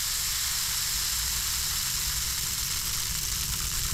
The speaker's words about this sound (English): And so this is kind of like a high-tech rain stick. It's clear, and it's full of tiny, tiny little metal pellets, almost, that fall through this little set of stairs and holes.